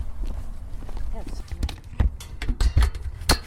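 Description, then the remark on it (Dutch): Footsteps crunch along a narrow path toward a farm at night in pitch darkness, near Uithoorn south of Amstelveen in the Netherlands, somewhat irregular, with several distinct steps over a low rumbling background and faint murmuring voices. “We lopen over het smalle pad richting de boerderij, waar ik mijn fiets tegen het hek zet.”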